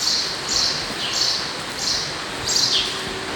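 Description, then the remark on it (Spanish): Birds chirp in short, high bursts, about four calls spaced irregularly over a steady background hiss, clear, with no one talking, on the dark, leaky top floor of the abandoned Santa Lucía market, among half-fallen shutters and empty boxes. “Y la señal de quincallería lleva a un último piso lleno de goteras, persianas semicaídas, oscuridad, cajas vacías y hasta pájaros.”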